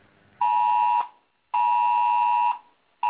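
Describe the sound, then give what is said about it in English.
A cell phone's emergency alert tone, of the kind sent for Silver and Amber alerts, blares in loud, steady, harsh electronic bursts, a shorter blast, then a longer one, then another starting, with brief silent gaps and no talking. “So whenever there's a silver alert, you know, for, like, an older person who's driving, who has Alzheimer's or something, or the Amber alert for children, these periodically come over on my phone.”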